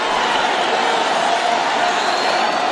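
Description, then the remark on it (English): A large crowd of about 100 people gathered outside fills the air with a dense, steady murmur of many blended voices, continuous and fairly loud throughout, with no single speaker standing out. “Look at that crowd. There's like 100 scumbags outside.”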